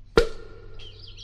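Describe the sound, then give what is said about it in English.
A sharp pop as a cork is pulled from a bottle, then soft, high warbling chirps like a nightingale's song, rising and falling continuously near the end over a faint low hum, with no talking. “These nightingale's tongues aren't well-seasoned at all. They're still chirping.”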